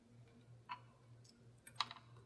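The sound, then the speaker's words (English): A few faint, sharp clicks of dice being handled as a player dramatically chooses their dice, with one click and then a brief cluster a second later, set against a low steady hum and no talking. “And dramatically choosing your dice.”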